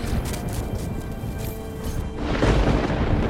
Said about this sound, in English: Storm is moving faster than I thought.